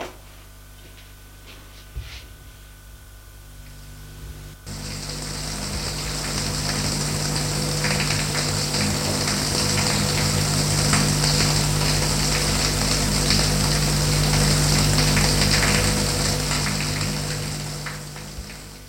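A few seconds of quiet room hum, then a shower turns on as a woman goes to take her shower, running steadily, a constant hiss of spraying water that continues to the end with no talking.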